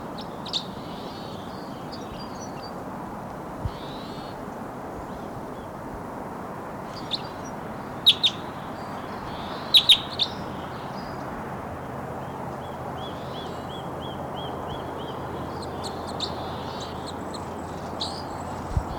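Sharp, high bird calls and short chirps break out in brief clusters, a few louder bursts standing out over a steady hiss of background noise; a crossbill singing.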